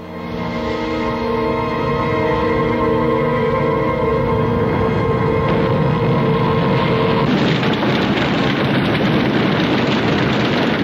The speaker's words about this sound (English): The hunt was on. British bombs against German U-boats.